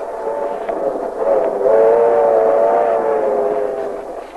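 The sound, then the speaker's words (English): A passenger train rolls steadily along the tracks with a continuous rumble, while a sustained horn-like tone swells in partway through and holds to the end. No one speaks. “Then after breakfast, when the train stops at Jacksonville, we'll jump off and buy you a few things.”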